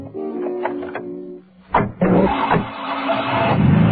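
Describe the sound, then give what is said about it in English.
A taxi's tyres squeal in a long, steady, high-pitched skid as it swings a half circle in the road, then a sharp burst of noise as the engine roars and the taxi speeds off to the right into Jetty Street with a loud, rough rumble. “The taxi, which was facing northwest, suddenly prescribes a half circle in the road, skidding violently.”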